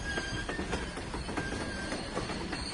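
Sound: passing train on railway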